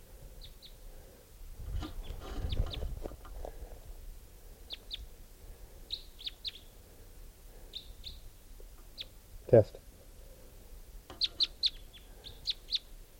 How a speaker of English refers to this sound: Pointed at one of them. I think they're type 3s. Here's the other bird. Caught one of them.